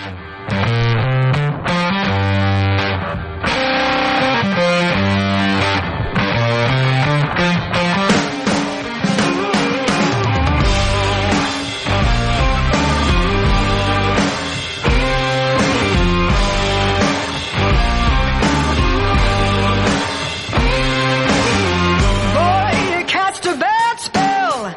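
A loud rock intro driven by a gritty, distorted electric guitar riff over pounding drums and bass, with steady rhythmic hits and no singing yet.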